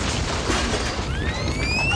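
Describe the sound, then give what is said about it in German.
Homemade fireworks go off in a dense, steady roar of crackling and hissing, and partway through several thin whistling tones rise in pitch above the noise. No one speaks. “Siehst du ja, ich bastle ein Feuerwerk.”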